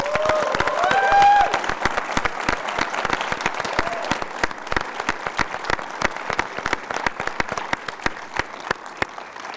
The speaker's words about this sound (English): And tonight we have a very special guest. Please give a big round of applause to the man behind it all, the brains behind our Leverage team, our very own Nate Ford, Academy Award winner Timothy Hutton.